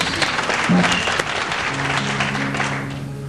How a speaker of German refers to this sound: Und dann, ja, was klatscht ihr dann? Dann liegt's an euch.